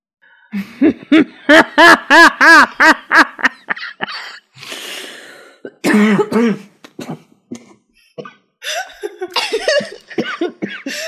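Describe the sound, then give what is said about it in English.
A loud coughing fit: a rapid run of harsh, voiced coughs, then a brief pause and more scattered coughs and throat-clearing sounds trailing off, with no talking. “Cough really punctuates it.”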